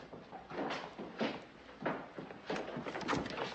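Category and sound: household object, door opening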